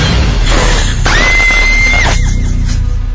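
A woman lets out a single sharp, high-pitched reflexive scream of fright lasting about a second, loud, over a dense, rumbling background.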